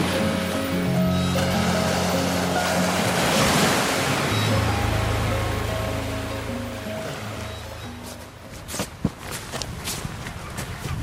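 wind

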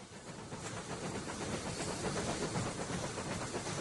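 train on rails

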